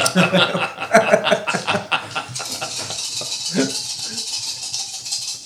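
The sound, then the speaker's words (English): Dice rattle and clatter in a quick burst of sharp, bright clicks as a player rolls for doctor treatments in a game, with soft chuckling and murmured voices mixed in over the tumbling. “I'm going to roll my own treatments.”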